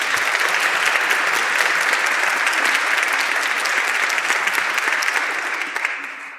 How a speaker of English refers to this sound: So please, a warm round of applause for them as well.